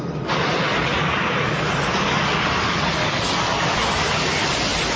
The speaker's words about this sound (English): Oh, here's the bus.